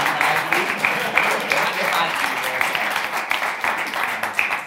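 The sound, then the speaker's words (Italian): Sustained audience applause for the speakers of a round-table discussion fills the whole stretch, a dense, steady patter of many hands clapping at an even loudness with no pauses. “Facciamo un applauso ai nostri relatori.”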